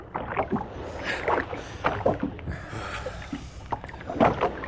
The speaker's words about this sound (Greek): Να βάλουμε δύναμη στα κουπιά. Κι άλλη δύναμη.